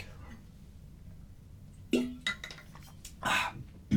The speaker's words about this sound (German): Ich trinke mal kurz einen Schluck Wasser.